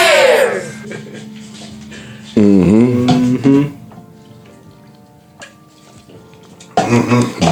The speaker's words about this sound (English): Oh, that was a gulp. Sorry. Mm-hmm. I poured that one. That was my bad.